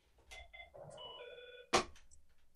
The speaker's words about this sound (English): I'm sorry, but our telephone's ringing.